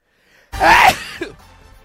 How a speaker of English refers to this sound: Oh, did you sneeze? That was. Well, yeah. God bless you, my friend.